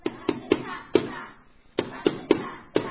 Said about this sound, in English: Where would Mary and Joseph stay for the night? They knock on a door.